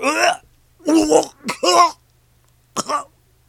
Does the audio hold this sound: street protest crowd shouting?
no